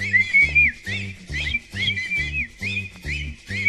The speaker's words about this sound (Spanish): Y ahora chiflando todo, malditos, chiflando todo.